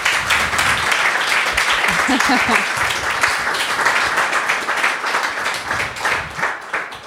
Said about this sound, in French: Eh bien, ouais, bravo, on peut déjà les applaudir. Merci.